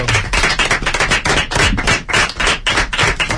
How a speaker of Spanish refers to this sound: Un aplauso, ¿no?